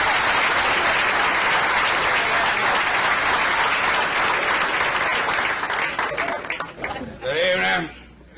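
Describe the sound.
A crowd claps loudly and steadily for about six seconds as a performer is introduced, the dense applause thinning out as a man starts talking at the end.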